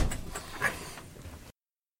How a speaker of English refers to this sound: Mind the door on the way out. It's old and it slams back at you.